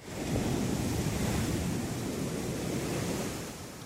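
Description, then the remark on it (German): Steady roar of ocean surf breaking onto an endless beach stretching for kilometres, a broad continuous wash of breaking waves with some wind noise, loud, no voices. “Und vor allen Dingen das Meer.”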